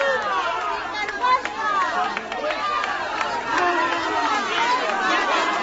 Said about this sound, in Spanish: Y si estos eran los aplausos, estos son los abucheos que recibía la candidata socialista.